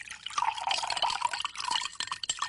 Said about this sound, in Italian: Mentre il mio cervellino girava a vuoto per tentare di rispondere a queste domande, aprì il frigorifero e mi versai una bella tazza di latte.